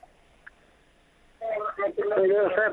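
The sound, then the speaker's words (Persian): After a moment of near silence with a couple of faint blips, a caller's radio, left playing during a call to a radio program, comes through the telephone line as a thin, muffled broadcast with voices, steady and fairly loud, with a tinny narrowband tone. “رادیویتون خاموش کنه. رادیو دی چلانه ده دقیقه تیت کوروره.”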